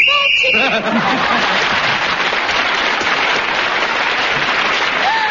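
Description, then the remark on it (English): A single short, shrill whistle blast marks the end of a round of a panel game, then gives way at once to loud, sustained applause with a few voices and chuckles mixed in. “As … was speaking, as the whistle went, she gained yet another point.”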